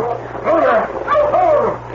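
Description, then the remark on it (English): A dog lets out two drawn-out, wavering barks in quick succession, nearly whining in tone, fairly loud over a steady low background hum. “Mike, stop that dog there.”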